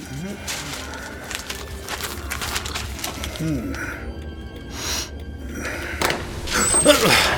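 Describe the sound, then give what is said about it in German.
Holmes flings a door open with a loud clatter and rattle into the living room at 221b Baker Street, followed by shuffling and knocking sounds, with faint voice-like murmurs and cooing in the background. “Holmes, also wirklich, müssen Sie die Tür denn immer so aufreißen?”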